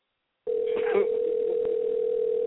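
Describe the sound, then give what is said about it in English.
A phone call ringing unanswered: a steady, unbroken telephone tone sounds at a constant mid pitch for about two seconds, thin and band-limited as if heard through a phone line, with a brief murmur of a voice near the start. “And they just letting it ring.”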